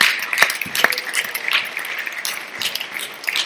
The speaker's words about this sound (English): Come on, give God a hand clap of praise in this place.